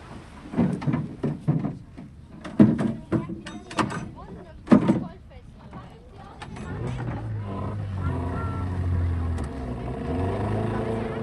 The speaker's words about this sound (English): There's only one way really to see this river, and that is, of course, is to go out on a boat on it, so that's what we've done.